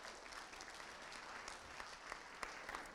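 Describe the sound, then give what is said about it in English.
An audience applauds steadily to welcome the preacher for the morning's sermon, a dense wash of many hands clapping with a few sharper individual claps standing out, no voices rising above it. “The more you clap, the longer I preach.”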